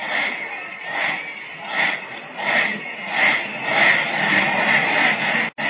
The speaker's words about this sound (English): The Southwest band is forming a huge victory end down at the other end of the field. And just listen to that cheer.